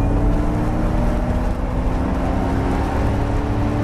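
A deep, loud synthetic V8 engine growl plays continuously through car speakers while the car accelerates hard from 0 to just over 100 km/h in about 5 seconds, a steady throaty rumble with layered low harmonics and no voices.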